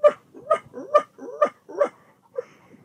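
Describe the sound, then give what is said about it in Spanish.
A thirsty dog, its tongue hanging out, pants heavily in quick, rhythmic huffing breaths, about five strong raspy bursts with a slight voiced edge, then a couple of weaker ones as it trails off. No one speaks. “Pobrecito, está jadeando mucho y su lengua le cuelga.”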